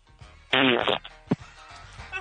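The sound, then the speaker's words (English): A loud, buzzy fart lasts about half a second with a rippling, sputtering tone, followed by a brief low blip and quiet background noise. “That's what it sounds like when my butthole tries to say bean.”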